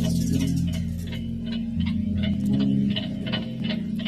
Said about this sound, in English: break the clock, no one notices the sound of one clock ticking, but two, you might start to wonder if you're really alive.